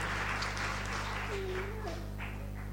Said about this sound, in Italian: Che possiamo dire? Niente, un applauso. Grazie.